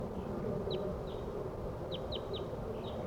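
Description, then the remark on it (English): Wild crossbills coming in, calling: about half a dozen short, sharp, high-pitched chip notes in an irregular series, heard over a steady low rumbling background with no talking. “crossbills are coming in now. These are wild birds.”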